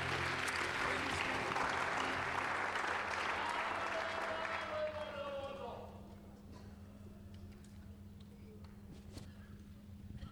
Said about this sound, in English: Clap your hands one more time as you're seated.